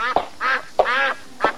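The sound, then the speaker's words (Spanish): A duck quacks several times in quick succession, each call a short nasal burst with a sharp onset, clear, with no voices around it. “Un pato muy verde mirándome a mí.”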